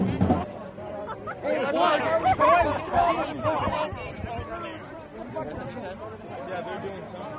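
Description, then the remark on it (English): Dense crowd chatter at a protest rally from many overlapping voices, a steady murmur of talk and shouts at moderate loudness with no single speaker standing out, swelling slightly in the first half before settling. “Yeah, so 5,000 or 6,000 people are here now?”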